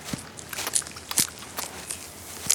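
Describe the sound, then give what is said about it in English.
A voice imitates a quokka munching and crunching on leaves and fruit, with a run of short crisp crackly bursts in an uneven rhythm, fairly quiet. “Can you be a quokka, munching and crunching on some leaves and fruit?”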